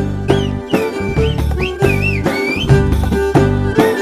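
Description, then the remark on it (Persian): A message whistled in the Kuşköy whistled language: loud whistles slide up and down in pitch in short phrases with brief gaps, over a steady, droning musical background. “زبان سوتی کوشکای از 50 پیش در مناطق اطراف دریای سیاه هم رایج شد.”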